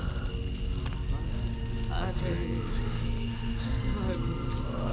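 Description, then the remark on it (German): A campfire, surrounded by four figures in red cloaks with large hoods, crackles and pops steadily throughout, a dense layer of small snaps over a low, constant rumble, even in loudness, with faint murmuring underneath. “4 Gestalten mit roten Umhängen und großen Kapuzen um ein Feuer.”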